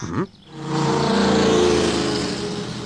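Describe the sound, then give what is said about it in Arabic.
Race car engines roar loudly and steadily after a brief opening blip, a sustained high-revving drone of cars speeding around a track, from a car race on a television broadcast. “أنا أعرف، هناك سباق سيارات على شاشة التلفاز، فلنشاهد.”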